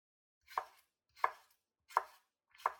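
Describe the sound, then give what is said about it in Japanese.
A kitchen knife slowly cuts a tomato on a cutting board four times at a slow, even pace, each crisp thunk landing about two-thirds of a second apart, with no voices. “ほら、包丁に集中して。ゆっくり。”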